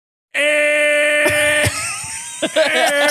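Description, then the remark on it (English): A voice imitates an angry car horn: one loud, nasal, sustained blare lasting nearly three seconds, steady in pitch, with a few brief catches and breaks near the end. “Here's a honk that I don't like.”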